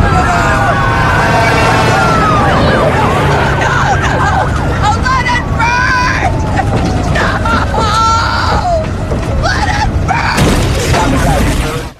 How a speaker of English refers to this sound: To be entirely honest, the only character that I resonated with in the entire movie was Lori when she saw the fire trucks going towards her house.